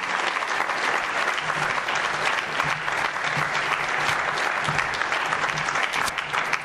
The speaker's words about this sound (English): Please give a big round of applause and welcome Dr. Eric Toner to the University of Nebraska.